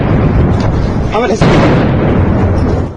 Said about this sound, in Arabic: اشتباكات عنيفة بالأسلحة الثقيلة والمتوسطة هزت أحياء العاصمة لا سيما في محيط المطار ومحيط القصر الجمهوري رغم وعود بهدنة.